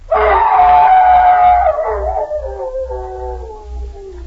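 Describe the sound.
A man imitates a hound's howl for a radio play of The Hound of the Baskervilles on the Jell-O program. It is one long, loud, wavering cry that slowly slides downward in pitch and fades, with a faint low hum underneath.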